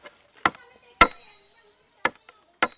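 A 23-year-old farmer and a friend split coca bush stalks with a machete in four sharp, irregular strikes with a faint tap between the last two; one blow leaves a brief metallic ring. No one speaks.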